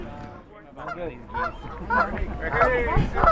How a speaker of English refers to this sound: I hear the geese. The geese are singing a song for you, a wedding song for you.